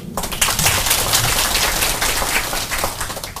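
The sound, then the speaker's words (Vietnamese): A steady wash of clapping from an audience welcoming poet Thanh Việt, mother of musician Thanh Bình, at a Vu Lan event, dense and crackling, holding at an even loudness for a few seconds with no voices over it. “Xin cùng dành một tràng pháo tay để chào đón thân mẫu của nhạc sĩ Thanh Bình, nhà thơ Thanh Việt.”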